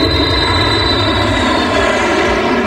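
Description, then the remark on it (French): Monsieur Fred's airplane returns near the end of the third event of a game, its engine droning loudly and steadily overhead, a dense continuous roar with a buzzing tonal whine, unbroken for the whole stretch, with no voices. “L'avion de Monsieur Fred revient.”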